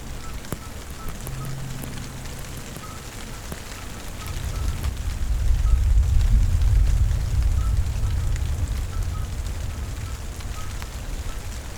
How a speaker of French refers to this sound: Face à moi, l'étang de Barandon, avec un léger reflet argenté. Et le chant des crapauds.